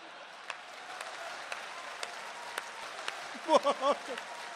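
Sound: audience applause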